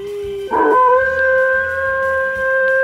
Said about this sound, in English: It's a dog! It's a spooky dog. Who's a spooky boy?